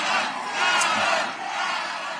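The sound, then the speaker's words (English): A crowd of protesters shouting together at Schiff's election night party, protesting the situation in Gaza, a loud, sustained roar of many raised voices with no individual words standing out, swelling slightly in the middle. “And I understand that Schiff's election night party was almost taken over by people protesting the situation in Gaza.”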